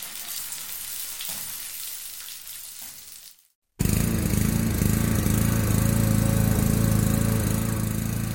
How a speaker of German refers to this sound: Essen, das in der Pfanne brutzelt und ein brummender Rasenmäher.